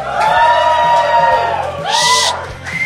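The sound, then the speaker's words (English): A live audience at a live recording cheers and whoops loudly, making noise for those who live south of the river, with overlapping shouts and high yells rising and falling over a steady crowd roar for a few seconds. “Now, as you're probably aware, tonight we're recording live, so we encourage you all to make lots of noise and cheer.”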